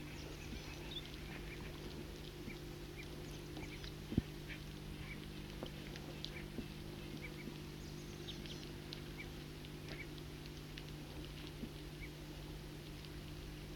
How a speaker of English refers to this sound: there's a foraging flock of several birds. And they are calling softly and often fighting among themselves.